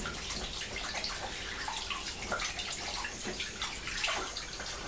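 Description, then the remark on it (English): A bath tap runs warm water steadily into the tub, a continuous rush and splash of water that stays even in loudness throughout, with no one speaking. “I've just run it so we get some nice warm water.”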